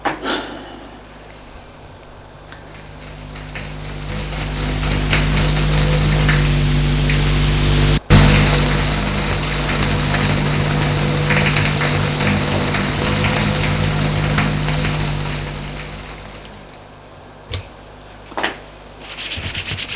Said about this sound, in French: Il sort de sa chambre pour aller à la salle de bain, prendre sa douche.